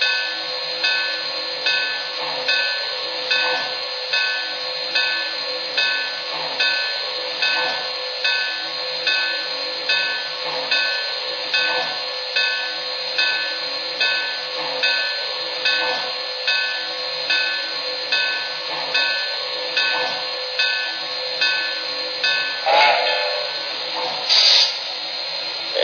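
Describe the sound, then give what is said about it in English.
A steam locomotive chuffs along in a steady, even rhythm as it pulls a train into a siding, its exhaust beats loud, with a brief sharper hiss of steam near the end. “We just made it into the siding on time.”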